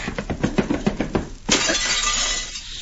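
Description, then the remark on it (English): A rapid run of rhythmic thuds gives way to a sudden loud crash as Jumbo Maverick, hit hard by Cisco, smashes through a glass window, followed by a long, bright tinkling of shards settling. “Cisco hit that Jumbo Maverick so hard, he goes through the window.”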